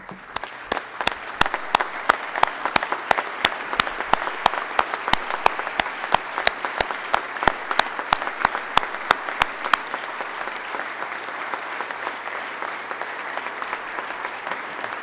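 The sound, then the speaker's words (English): An audience at an Iowa National Guard address applauds the dedication and sacrifices of service members' families steadily for about fifteen seconds, a dense wash of many hands clapping with sharper individual claps standing out, the crisp claps thinning after ten seconds as the ovation settles. “Please join me in applauding the dedication and sacrifices given by our families.”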